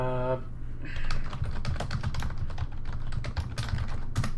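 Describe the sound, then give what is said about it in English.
Fast, forceful typing on a computer keyboard, a dense, hurried clatter of sharp keystrokes lasting several seconds, fairly loud over a steady low background hum. “That's a lot of type. That was angry typing.”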